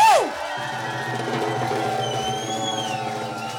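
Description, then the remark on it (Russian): A large audience claps and cheers to welcome a female singer, a steady, dense roar that holds for several seconds, with a few high whistle-like tones rising over the crowd noise. “Ваши аплодисменты!”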